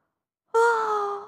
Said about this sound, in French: Un lapin pressé de rentrer chez lui et de se coucher dans son lit. Il bâille.